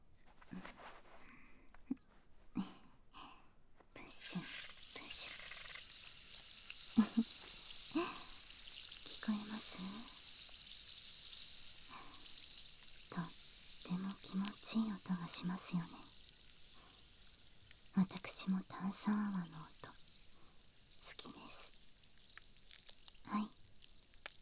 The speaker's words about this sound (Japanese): はい、次はご主人様の好きな炭酸泡でお耳を洗浄していきますね。